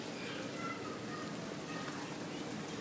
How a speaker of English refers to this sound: It just finished raining, so kind of makes it even more peaceful hearing these raindrops on the trees and fall on the grass next to me.